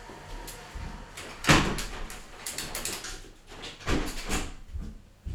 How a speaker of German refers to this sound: Jetzt sitzt draußen ein Auto, jetzt muss ich erstmal das Fenster zumachen. Sonst hört man hier die ganze Zeit das Rauschen im Hintergrund.